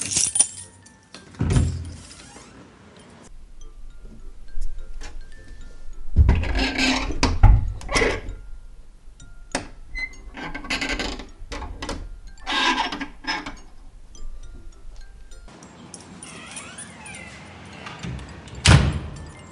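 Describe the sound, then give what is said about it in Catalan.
Guards close and lock the doors after the last visitors have left: doors thud shut and keys jangle as locks are turned, a sequence of metallic clicks, rattles and scraping bumps echoing, with quieter shuffling between the louder clunks. “Les gardiens ferment les portes.”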